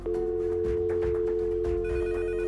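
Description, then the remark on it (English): Several telephones ring at once at a police station in a steady, overlapping electronic trill, loud, with a constant tone and busy background clatter, no voices. “Will somebody shut those damn phones off?”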